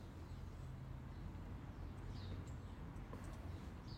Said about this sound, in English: It's back on again. I can hear birds in the background. Mm-hmm. It's calming, isn't it? It is quite calming. It's quite therapeutic.